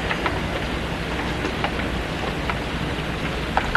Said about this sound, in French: Alors, on sort et on est pris par la pluie.